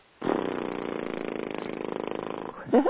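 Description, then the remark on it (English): A person blows a sustained voiced lip trill as a horse-lips exercise, a steady fluttering buzz lasting about two seconds, fairly loud, like a horse's snort, followed by a short rising vocal sound. “they want to be ready to commit to practicing a little bit every day, maybe 5 minutes of what one of the exercises is, simply horse lips.”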